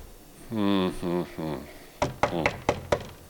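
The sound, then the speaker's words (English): A few short voiced sounds, then five sharp knocks on a door in an uneven, insistent rhythm, each a crisp rap against a quiet background. “Did you hear a knock?”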